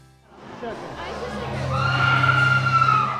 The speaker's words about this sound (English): We stand in line at the JC's Fear Grounds, and there's no ignoring the screams of other visitors deep within the haunt.